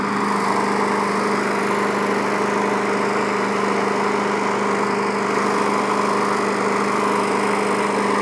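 A lawn mower engine runs steadily and loudly on a slope, a constant droning hum with a buzzing rattle, holding the same pitch throughout with no voices.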